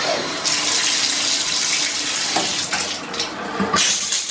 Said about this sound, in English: Shower time.